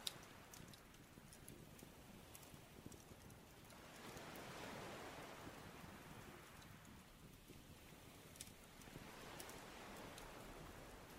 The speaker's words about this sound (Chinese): 聆听轻柔的海浪声，每次海浪涌来，在沙滩上留下白色泡沫，然后又很快退去。